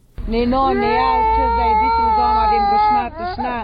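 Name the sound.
hungry infant crying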